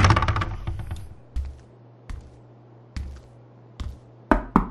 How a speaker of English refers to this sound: He knocked on the door with ringed fingers.